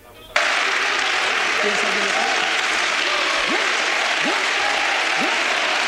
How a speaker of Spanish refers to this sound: Bueno, la sorpresa ha saltado al filo de la 1:30 de la tarde. De pronto, sin esperarlo, la tribuna de invitados y la bancada de Podemos, como decías, han empezado a romper en aplausos.